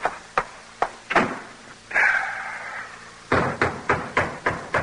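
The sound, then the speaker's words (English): A few sharp clunks, then a closet door in a kitchen drags or creaks open for about a second before a quick run of hard, evenly spaced thuds and bangs as a man gets in. Fairly loud, with no voices. “Now, before you drip mud all over the floor, get into this closet.”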